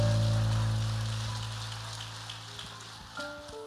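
Steady applause from a crowd, a dense crackling patter of many hands that slowly tapers, with sustained low keyboard chords humming underneath and a new chord entering near the end.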